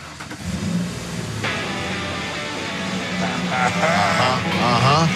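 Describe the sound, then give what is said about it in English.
A truck engine rumbles steadily, loud and continuous, as the truck is rolled forward and out for a reveal, with excited voices rising faintly over it toward the end. “Roll that baby out here, man!”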